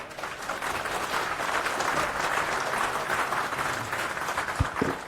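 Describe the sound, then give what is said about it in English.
Steady applause from an audience in the GoDev room welcoming a speaker, a dense wash of many hands clapping at even loudness, with a couple of sharper low thumps near the end. “So give a round of applause.”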